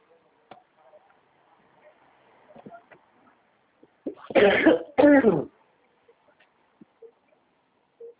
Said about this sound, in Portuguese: Ai, que tosse.